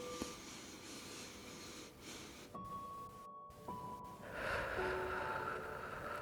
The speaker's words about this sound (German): Und dann atmet mal tief in diese Stelle hinein, nochmal durch die Nase ein.